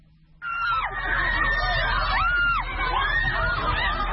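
A crowd of dozens of women, protesting the recent ban on beauty salons, chanting together "Don't take our jobs", their loud, high-pitched voices rising and falling in repeated rhythmic phrases over a steady roar of massed voices.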